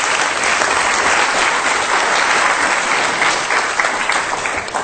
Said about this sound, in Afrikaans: Wie het iets geleer vanavond? Geef die Here een groot hande klap.